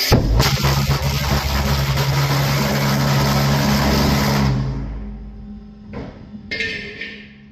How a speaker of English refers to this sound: So now, I'm going to try it on the boat. Okay, jet boat, jet engine, test one, here we go.